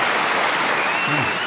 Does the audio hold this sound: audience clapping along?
yes